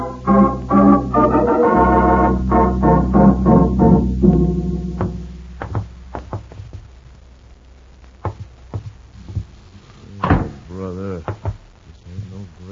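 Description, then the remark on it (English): A door is opened with a few scattered knocks and clicks, then a louder clunk followed by a short wavering creak. Voices and tonal sound fill the first half before it goes quiet. “Move ahead of us and open the door.”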